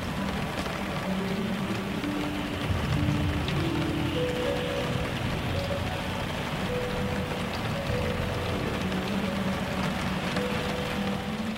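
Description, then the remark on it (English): Steady rain falls in a dense, continuous patter, with sparse soft notes from a record of 18th-century harp music ringing faintly above it, just loud enough to be heard above the rain. No one speaks. “But then I started listening to the rain and listening to these odd notes of the harp that were just loud enough to be heard above the rain.”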